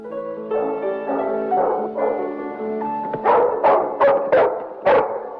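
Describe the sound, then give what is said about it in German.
A black schnauzer, Lady Lebanon's dog, lying on a carpet, whines in drawn-out, tonal whimpers, then breaks into a run of about six sharp barks in quick succession, with no talking. “Auf dem Teppich liegt ihr Hund, ein schwarzer Schnauzer.”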